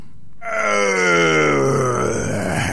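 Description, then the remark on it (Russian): A dragon roars in a loud voice: a drawn-out monstrous roar starts after a brief silence, holding strong for over two seconds as its deep, growling pitch slowly sinks. “Увидал змей Горыныч Добрынюшку, бросил мертвое тело на землю, зарычал громким голосом.”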